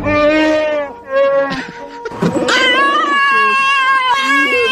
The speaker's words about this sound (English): He walks up to the car. Aren't you a cute little doggy? I'm sorry, sweetheart. I don't understand a thing you're saying.